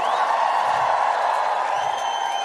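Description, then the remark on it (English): A large concert crowd at Pink Pop roars and cheers at night, two songs into the set, in one loud, steady wash of noise, with a few high whistles cutting through near the start and end. “This is the loudest crowd I've actually been to with a Pink Pop.”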